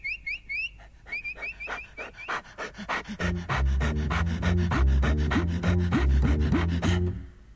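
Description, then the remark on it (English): A Great Dane puppy named Tinkles pants rapidly in a quick, steady rhythm. A few high chirping squeaks come early, and a low wavering tone rises beneath the breaths in the second half. “But not content with standing there teasing him for half an hour, you have to go and leap over the fence and frighten the life out of our poor little Great Dane puppy.”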